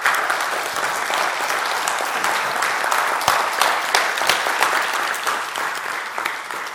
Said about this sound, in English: So here's what I wanted you to do. Just clap for the Lord for doing that.